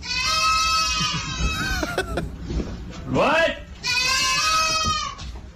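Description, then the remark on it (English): Four baby goats, quadruplets, waiting just outside a door for their dinner, bleat loudly in long, wavering cries, one after another with brief pauses, while a person's voice speaks a short word between them. “So whoever is recording the video is inside the house, and the four baby goats, they're quadruplets, goats. They're just outside the door waiting for their dinner.”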